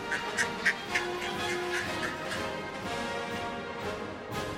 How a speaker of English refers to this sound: And when the doors open, the ducks march down a red carpet, up some steps, and into the hotel's ornate fountain.